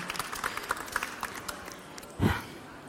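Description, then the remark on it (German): Audience applause for the reader at the start of a reading: a soft, steady patter of many hands clapping at once, with a brief fuller burst near the end before it fades. No voices are heard. “Dann ein Applaus für Sie zum Start.”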